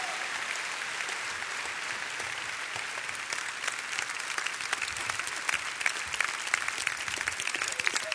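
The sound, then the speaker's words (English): A crowd claps steadily, a dense wash of many hands that grows slightly louder and more emphatic toward the end, with no one speaking over it. “Yeah, those of us who are clapping know what this means.”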